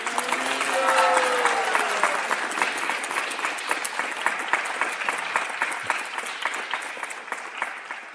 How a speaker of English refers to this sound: I think we should give her a big round of applause.